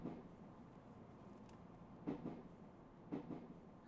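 A train departs and rolls along with a steady low rumble, broken by a couple of clunking rail joints around the middle and later, heard from a seat inside the carriage with no voices.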